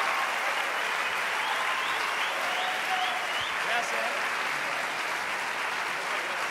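Sustained applause from a large audience welcoming Dante Gebel, a dense steady wash of clapping that holds at an even loudness for several seconds, with faint whistles or cheers woven through.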